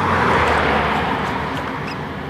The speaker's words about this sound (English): I'm unused to hearing tires hiss. There's a hiss in addition to the tread sound, or because the tread sound, or whatever. Tires hiss now. The engine sound is one thing, but the tires have a hissing component